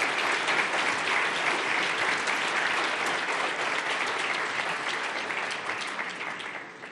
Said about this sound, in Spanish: Bienvenido, Coloso. 16.000 desregulaciones. Aplauso para el Coloso.